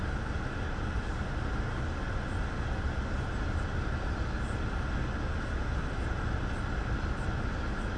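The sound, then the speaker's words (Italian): An approaching train rumbles, a dense, steady low roar that holds at an even level throughout, with faint hiss above and no voices. “Oh, sento il treno, mi sembra che sta...”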